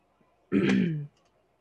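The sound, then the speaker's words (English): A single rough, gravelly throat clearing, lasting about half a second, with quiet background on either side and no speech. The throat is being cleared because a front field was mowed the day before, in the countryside. “I am clearing my throat a lot because they mowed the front field yesterday, and we are all over here like, yeah, that's the joys of country living.”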